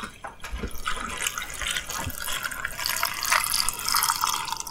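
Brine is poured steadily into a quart-size glass ball jar to cover vegetables for fermenting, a continuous splashing, gurgling stream with a few brief clinks, rising slightly as the jar fills.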